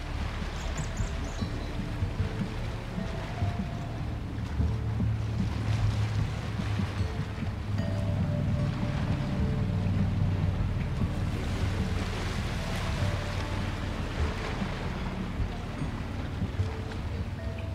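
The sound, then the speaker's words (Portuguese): Steady wash of sea waves with a low, rumbling roar and broad hiss, swelling gently in places, mixed with wind noise; no voices, a continuous, moderately loud natural ambience. “Escuta o mar, a natureza.”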